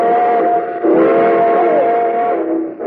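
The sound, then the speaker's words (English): A loud, sustained steam train whistle sounds continuously as train number 31, the cinder bucket, leaves on track 3, its shrill chord holding steady with a slight dip in pitch near the middle, with no voices. “please, train number 31, the cinder bucket, now leaving on track 3.”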